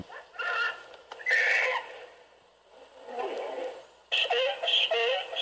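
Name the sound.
donkey braying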